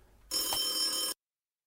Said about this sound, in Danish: Ja, lad os se, om han tager telefonen.